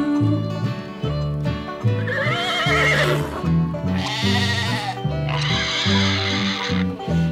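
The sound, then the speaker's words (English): A horse whinnies loudly twice, each neigh a shaky, wavering cry lasting a second or two, layered over bouncy instrumental music that plays steadily throughout. “Thank you, horse, sheep, and piggy too, and rooster, I enjoyed your cock-a-doodle-doo.”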